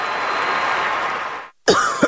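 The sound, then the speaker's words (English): A steady wash of hissy noise cuts out, and after a brief pause someone with a cold coughs loudly, a harsh burst with a second hack right after. “Sorry, I can't sleep with this cough.”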